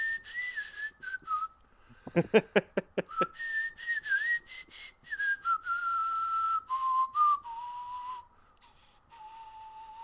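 A clear, sustained whistled melody from a film score glides through long held notes, interrupted early by a quick run of sharp percussive hits, then continues alone with no talking.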